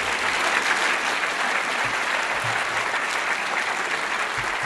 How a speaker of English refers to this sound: And I'd just like to ask for a round of applause as we conclude the talking portion of the debate.